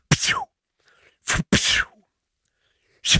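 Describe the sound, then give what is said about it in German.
A voice imitates whip lashes as spoken-in sound effects for a scene: four sharp, loud, hissing bursts, the second and third close together, separated by short silences, with no talking. “zum Warmwerden, könntest du ein paar Peitschenhiebe ja, natürlich. Einsprechen?”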